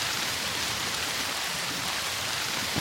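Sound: rain falling outdoors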